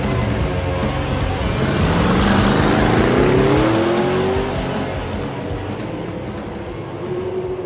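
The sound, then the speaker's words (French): An all-terrain vehicle loaded with oxygen tanks is started in a garage and leaves a maintenance base, its engine roaring loudly and revving higher as it pulls away, the droning growl rising in pitch before settling into a steady hum as it drives off. “Montant dedans, vous le démarrez et dites adieu à la base de maintenance une bonne fois pour toutes.”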